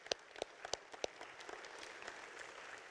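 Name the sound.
one person clapping hands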